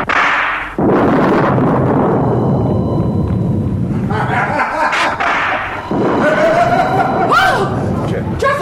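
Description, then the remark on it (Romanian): A loud peal of thunder breaks after a brief lull and rolls on as a heavy, sustained rumble for several seconds, with muffled voices and scattered higher noises mixed underneath. “Nimic, draga, n-a tunat. Cred că o să plouă.”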